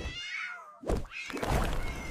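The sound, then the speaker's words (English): A small strawberry kitten gives a high, wavering meow, followed by a soft thunk and a burst of rustling, scuffling noise. “It's a strawberry kitten!”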